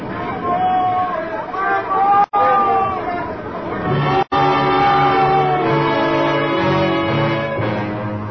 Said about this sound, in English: Then there was one night when shouting on deck woke me up.